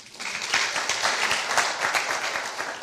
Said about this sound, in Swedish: Det är värt en applåd i sig.